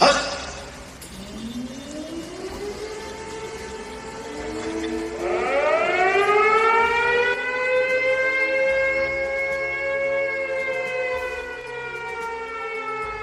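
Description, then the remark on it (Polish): Civil defense sirens wail in slow rising sweeps, a second siren joining partway through so the tones overlap and hold steady, loud and sustained with no voices; sounded in Warsaw, Poland, in 2014 for the 70th anniversary of the outbreak of the Warsaw Uprising. “Te syreny wybrzmiały w 2014 roku, w 70. rocznicę wybuchu Powstania Warszawskiego.”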